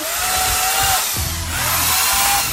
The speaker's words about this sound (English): Is the plug turned on? I'm pretty sure it's live. God damn it. Turn the chainsaw on and just see.